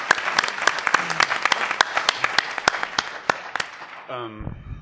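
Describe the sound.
A crowd in a room gives another round of applause, with dense, steady clapping and sharp individual claps standing out for about four seconds. The applause then thins as a voice starts speaking over its tail.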